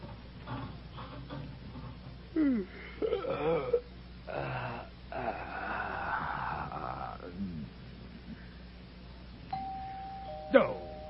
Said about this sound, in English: Oh, I knew it. Doorbell's ringing!